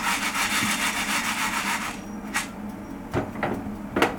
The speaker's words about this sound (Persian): من دوتا دستگیره ها رو برداشتم، دو طرف قابلمه میگیرم، قابلمه هم روییه، چپ و راست حرکت میدم، یه ذره بلند میکنم از گاز.